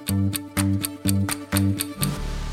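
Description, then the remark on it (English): Steady, evenly spaced clock ticks, about four per second, ring out crisply over a looping electronic music bed. No one speaks. “or I can use a loop to repeat something forever, like how a clock keeps ticking forever and ever.”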